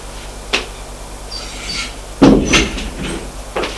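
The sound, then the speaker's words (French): A few sharp knocks on a door, spaced irregularly: one early, a firmer pair in the middle, and a last one near the end, each crisp, with no voices. “On frappe à la porte.”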